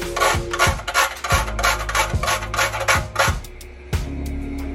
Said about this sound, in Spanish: Y le voy a rallar un poquito de nuez moscada.